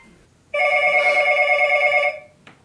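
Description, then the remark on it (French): A telephone rings loudly, one sustained electronic trill lasting about a second and a half, with a faint click just after it stops. “Téléphone.”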